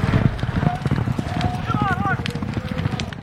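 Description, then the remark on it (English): Horses gallop in an Indian Relay race on a half-mile race track, a rapid, steady drumming of many hooves that fills the whole moment, with voices and brief whistling tones rising above the thundering rhythm. “These horses are able to run like you wouldn't believe.”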